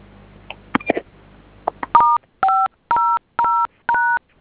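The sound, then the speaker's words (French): A few soft clicks, then five loud, evenly spaced touch-tone beeps as keys on a phone keypad are pressed one after another to dial the code *500# and activate the line's dial tone, each a steady two-note electronic tone. No one speaks. “Composez le code étoile 500, dièse OK.”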